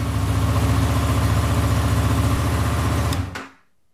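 A motorcycle engine idles with a steady, throbbing low rumble, loud, then cuts off abruptly near the end, leaving silence.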